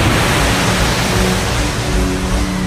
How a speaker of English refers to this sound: A massive wave of water knocked Bakora off her feet and smashed her into a wall.